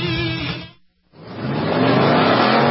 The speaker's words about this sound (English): The 57th running of America's legendary sports car endurance classic runs Saturday, March 21st at Sebring International Raceway. The Mobile One 12 hours of Sebring, presented by Fresh from Florida, features the fastest race cars in the world.